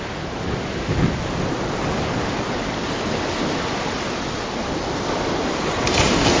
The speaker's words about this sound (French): Mais le troisième jour de la traversée, une tempête éclata, et beaucoup se mettèrent à crier. Tout se passa très vite.